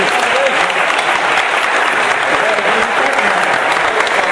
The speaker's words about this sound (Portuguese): vamos aplaudir, gente. A ordem dos músicos.